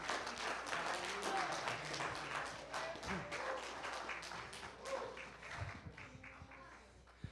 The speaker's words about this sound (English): Oh, if you believe it, clap your hands, stand to your feet, and say yes to God.